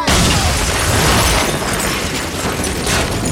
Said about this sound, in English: A flat above them explodes.